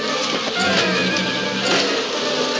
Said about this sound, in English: Thousands of angry bees driven by a madman's secret formula.